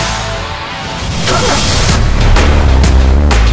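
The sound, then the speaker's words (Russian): Loud motor engines rumble, the deep roar building in intensity, with several sharp revving bursts cutting through over a few seconds. “Моторы.”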